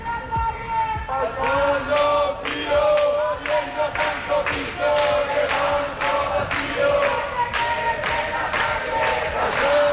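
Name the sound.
protest crowd shouting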